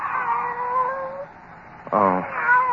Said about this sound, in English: Oh. It's you, Kitty. Barbara's pet.